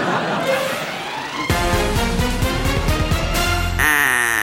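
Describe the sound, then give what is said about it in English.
A loud burst of duck quacking sound effects signals the start of a bonus round. It is a rapid string of raspy, nasal calls piling up over a couple of seconds, then shifting into a different honking tone at the end. “Oh, Guy Raz, that sound can mean only one thing. There's a duck in the studio?”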